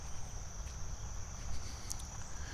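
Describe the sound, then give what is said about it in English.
A steady, high-pitched chorus of frogs drones through a quiet night ambience at a billabong, with a soft low rumble and faint rustling underneath, and no one talking. “I'm walking across the land bridge now. All I can see is frogs and the billabong.”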